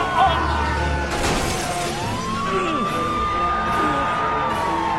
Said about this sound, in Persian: پلیس با موتور کوبید به پشت کامیون. فکر کنم مرد.